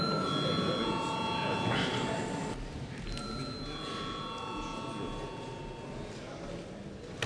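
A parliament chamber bell rings continuously for about seven seconds before a vote on electing a deputy to the Latvian delegation of the Baltic Assembly, a steady, loud electric ring filling the hall, with a faint murmur of the room beneath it.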